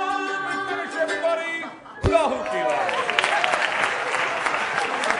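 A sung line ends abruptly, then audience applause bursts in for audience participants in the show: dense, steady clapping from many hands that stays loud and sustained to the end, with a few louder claps popping out.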